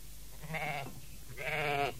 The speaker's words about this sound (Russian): Я слышу блеяние овна! Да, сын, он запутался в чаще рогами.